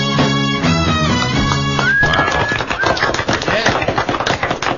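A sustained, tonal passage ends about two seconds in, giving way to dense, crackling clapping from an audience, with a brief high whistle rising above the steady applause.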